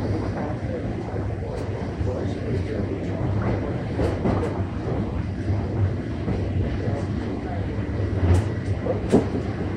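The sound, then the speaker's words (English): A subway train rumbles steadily into Rosedale Station, a loud continuous low roar with occasional metallic clicks and squeaks near the end as it slows. “Arriving at Rosedale Station. Doors will open on the right.”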